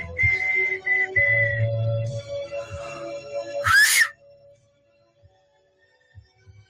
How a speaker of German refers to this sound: Was bewegt einen denn dazu, als Streamer ins Mikrofon zu pfeifen? Es muss doch klar sein, dass es kaum etwas Unangenehmeres für die Zuschauer gibt, als so ein lautes Geräusch.